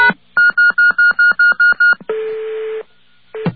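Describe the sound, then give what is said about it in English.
A quick run of eight steady touch-tone keypad beeps, evenly spaced, keyed in after connecting to a pager (beeper), followed by a longer buzzy tone and a short final beep, with no talking. “All right, if you get the beeps and it just pauses, it's waiting for you to key in some digits. So, key in some digits. And always finish with a pound sign.”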